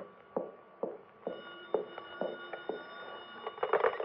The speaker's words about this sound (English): The phone. Well, I'm not going to answer it. Go ahead, answer it, baby. Go on. Okay.